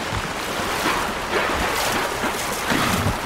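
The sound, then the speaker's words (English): Steady, loud rush of open sea water with big waves sloshing and surging in sunny weather, the crew's motorboats droning low underneath as they move through the swell. No voices. “There was cool sea life, like these dolphin pods that leapt out of the water beside the crew's motorboats, like they were racing us.”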